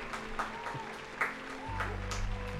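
Scattered audience clapping with a dense, crackling texture, joined by a low steady hum that grows louder midway through, over about two and a half seconds.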